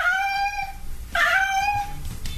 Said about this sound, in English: the cat kept sitting in this one spot and was meowing super, super loud